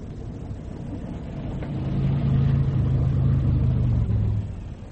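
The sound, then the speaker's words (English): A car engine rumbles low, then revs up and holds a steady droning hum for a couple of seconds before easing off, fairly loud, with no voices. “We can't drive it like this. We'll have to. If the wretched thing will start.”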